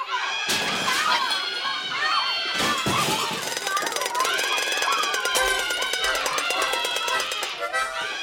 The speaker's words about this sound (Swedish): Detta fullkomligt kaotiska ljud av stormiga barn leder oss fram till ett mejl från vår lyssnare Kari